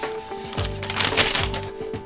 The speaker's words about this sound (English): And let's take a look at the news, because I've got the New York Times popped open here. It's my fake newspaper sound.